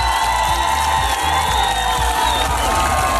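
A TV game show studio audience bursts into sustained cheering and clapping for a contestant who has just won 2000, loud, with whoops and excited shouts rising over a dense, continuous wash of applause.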